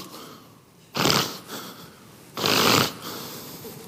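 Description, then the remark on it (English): A man's voice imitates two forceful, harsh snorting breaths like an angry, vicious wild boar, each about half a second long, loud, separated by a brief quiet pause with no words spoken. “Like a wild boar in the wilderness, snorting and barking, and angry and vicious, and he's snorting.”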